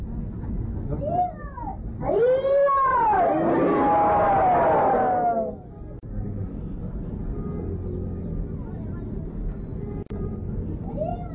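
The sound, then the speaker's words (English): A loud, drawn-out tiger roar rises and falls for a few seconds, dominant, then fades into a low ambient rumble with faint background noise. “Tiger don't answer him when he says that.”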